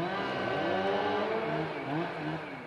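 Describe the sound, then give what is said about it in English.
Heavy trucks carrying burned timber roar past in the El Dorado National Forest, an hour east of Sacramento, with a loud, sustained engine rumble and whine, the noise swelling and shifting in pitch as vehicles pass, no voices present. “Just an hour east of Sacramento, trucks carrying burned timber in the El Dorado National Forest roar past.”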